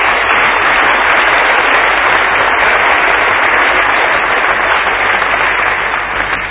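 Steady, dense applause from an audience, a loud continuous wash of many hands clapping that holds evenly for several seconds without any talking over it.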